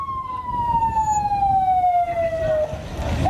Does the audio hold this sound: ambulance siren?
yes